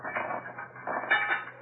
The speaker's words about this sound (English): Now I'll pour these stones out of the bag.